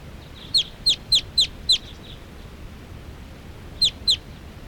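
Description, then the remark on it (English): Wild birds, which look like all females perching in a big tall tree, calling: five sharp, high-pitched chirps in quick, even succession, a pause of about two seconds, then two more, over a faint low background hum. “There are some wild birds here coming around.”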